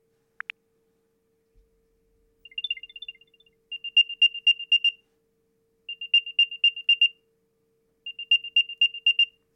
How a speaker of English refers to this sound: And I'm just going to double tap on play sound, and then you can hear what the AirTag itself sounds like.